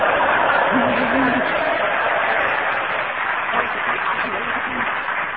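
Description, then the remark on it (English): An audience gives sympathy applause after a challenge on a panel game, applauding steadily for about five seconds, a dense even patter of clapping with a faint murmur of voices underneath. “I think that was a real sympathy applause”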